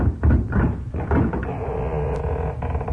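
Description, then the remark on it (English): A door is unlatched at night and swings open as someone answers a knock, with a few wooden clunks and rattles, followed by a steady low rumbling creak as it moves, with no one speaking. “Wait a minute. Here comes somebody to the door.”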